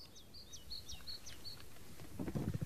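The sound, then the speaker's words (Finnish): A bird sings a quick repeated phrase of bright, looping whistles high above a soft outdoor hiss at a summer cottage dock on a lake shore in Finland, with faint lapping of waves rising near the end. “Linnut laulaa ja laineet liplattaa.”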